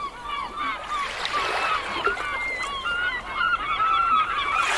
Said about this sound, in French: Une baie, des rochers et des oiseaux de mer, comme vu, là, c'est génial.